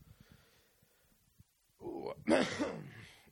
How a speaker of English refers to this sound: Thank you for coughing into the microphone. Gross.